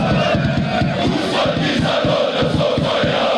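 A large crowd of football fans chants slogans together in the stands, a dense, steady roar of many voices with rhythmic pulses, loud and continuous throughout.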